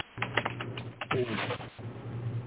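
Typewriter keys clack in a quick, irregular run of sharp strikes, with a carriage return, then pause and pick up again over a steady low electrical hum.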